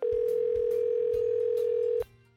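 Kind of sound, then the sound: signal or alarm, telephone call ringing tone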